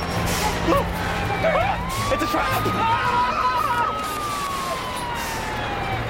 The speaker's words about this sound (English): Fire engines pull into the drive, panicking the guys.